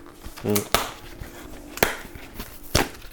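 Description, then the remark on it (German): Paper being torn into small pieces: three short, crisp ripping bursts spaced about a second apart, with a brief murmured voice sound just before the first tear. “Ich mache gerade Papier klein, falls du dich wunderst.”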